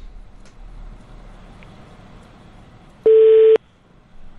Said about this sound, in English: I think he pressed one. I think that was him pressing one on the keypad. Press one to get on the air.